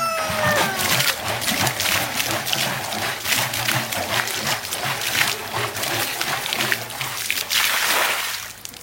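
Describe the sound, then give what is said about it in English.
Bleach water sloshes and splashes steadily inside a container being shaken, then pours out in a rushing, splattering stream as the container is emptied outdoors, continuous for several seconds. “The last thing I do is I empty this, but I give it a real good shake.”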